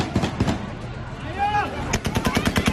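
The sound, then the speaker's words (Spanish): Rapid bursts of gunfire crack out in quick succession at an airport where crowds run on the runway beside US military planes about to take off: a short volley at the start and a longer rattling string near the end, with shouting between them. “Algunos incluso se han agarrado a las ruedas de algún aparato y durante toda la mañana se han estado escuchando ráfagas de disparos.”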